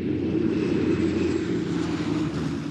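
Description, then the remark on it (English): A deep, steady engine rumble with a throbbing low drone of fleets of heavy propeller bombers (Liberators, Fortresses, Marauders, Mitchells) passing overhead about 1,000 feet up, loud and continuous with no voices. “And soon this grew into a rumble and a throb. Fleets of black specks could be seen, trailing long, straight scarves of white vapor.”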